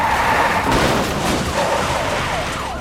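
A car's tires screech in a long, wavering high-pitched squeal over steady, loud road and engine noise, the pitch sliding up and down without a clear crash impact, as a fleeing suspect's car crosses into oncoming traffic toward a head-on collision with another car.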